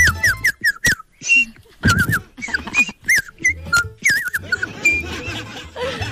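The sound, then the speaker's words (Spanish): A dog whines and yips in a rapid, chattering run of high, wavering squeaks, fairly loud, with brief pauses between bursts. “Mira, el amigo hablando ahí su idioma perro.”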